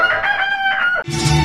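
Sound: rooster crowing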